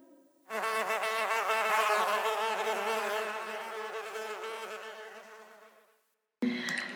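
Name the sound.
wasps buzzing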